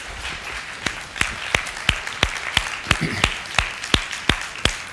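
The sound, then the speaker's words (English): A church audience claps for Jesus after a sermon, clapping its hands together in a steady, fairly quick rhythm, with sharp, loud claps standing out over a softer wash of scattered clapping throughout. “Let's give Jesus a hand clap, shall we?”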